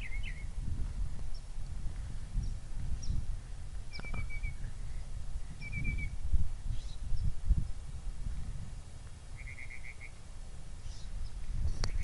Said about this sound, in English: That bird certainly got a variety of calls.